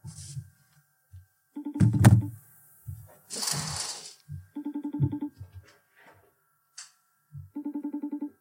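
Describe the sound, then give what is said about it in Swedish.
A phone call back to a friend's boyfriend goes unanswered: three evenly spaced bursts of a buzzy, pulsing ringback tone, clear, with a few handling thumps and a brief rustle between rings. “Men alltså, kan vi diskutera att de ringer mig och golar ner varandra och sen inte svarar när jag ringer tillbaka till dem?”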